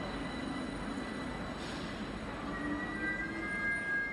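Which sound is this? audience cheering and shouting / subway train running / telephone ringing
subway train running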